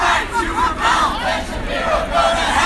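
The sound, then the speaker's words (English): A crowd of several hundred student protesters, marching from the president's office to the lecture hall where Shapiro was speaking, chants loudly outdoors, many voices rising and falling together in a steady rhythmic swell, with no pauses in the roar. “A group of several hundred student protesters marched from the president's office to the lecture hall.”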